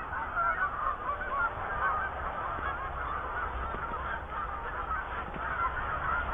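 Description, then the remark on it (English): A flock of Canada geese at the edge of a cornfield honks continuously as some fly off, many overlapping calls forming a dense, steady clamor, with no one talking; the closest geese are about 100 feet away. “The closest Canadian geese, there's three of them.”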